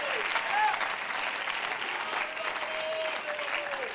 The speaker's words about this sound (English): Clap your hands into him and bless his name. What a good God.